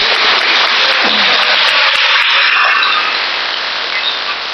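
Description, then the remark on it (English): Seminar attendees applaud children who came to the seminar. The steady applause is a dense wash of many hands clapping together at a constant loud level, slowly thinning toward the end. No voices over it. “Let's give them a clap.”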